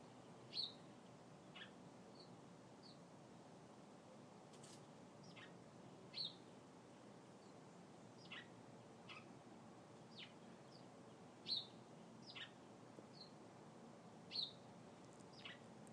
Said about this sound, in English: I'll have to listen to my Bird Tunes app and see what if I can find similar calls